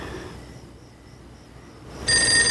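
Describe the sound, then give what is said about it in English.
Faint, wavering electronic tones give way to a telephone suddenly ringing as Georgia's mom phones Marge, a loud, bright, steady trill that cuts in near the end. No one speaks. “Georgia and Beagle have gone to a motel, and Georgia's mom phones Marge, worried about where Georgia is and what Beagle's doing with her.”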